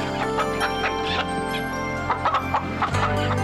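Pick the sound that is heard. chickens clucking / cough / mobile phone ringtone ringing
chickens clucking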